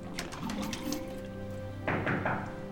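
Several quick, hard knocks on a tiled surface in the first second, crisp and close, followed by a burst of rushing water that runs to the end.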